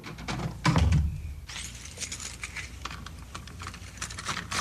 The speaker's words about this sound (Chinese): 哦，是你们啊。好，我就来开门啊。